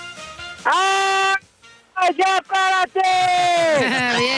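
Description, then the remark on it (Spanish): A single voice lets out long, loud, sustained shouts, one held yell, a few short whoops, then another drawn-out bellow, like a crowd wave cheer at a stadium. “Ok, eso fue más bien como un grito de la ola en el Estadio Azteca.”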